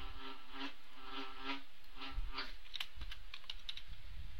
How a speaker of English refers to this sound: Attack of the killer bees. Sorry. Get out of here, bug.